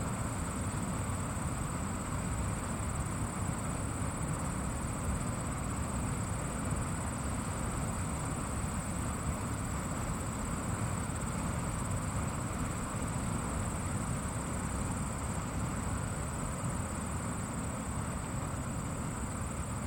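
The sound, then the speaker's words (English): Crickets chirp in the background as a steady, high-pitched shimmering drone, running without a break over a loud, constant low rumble. Recorded on a fall afternoon at a lake in Keene, New Hampshire, about 100 yards from a waterfall. No one speaks. “And even though it was a beautiful fall afternoon, notice what sound like crickets chirping in the background.”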